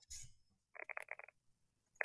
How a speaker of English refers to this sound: Do you hear this? Yes. It does sound very smooth. It sounds very buttery. I can't hear you because we can only hear the mechanical keyboard.